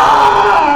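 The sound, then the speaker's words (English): An angry pet lynx named Ramsey, in a kitchen, from a YouTube video, lets out a loud, continuous growling yowl, a strained and steady high-pitched wail that holds without a break for under a second, with no talking over it. “This is the sound of a pissed off lynx.”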